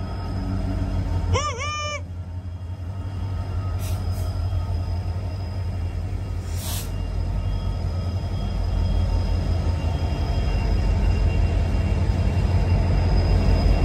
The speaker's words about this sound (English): What is so fascinating to look at a train coming into the station?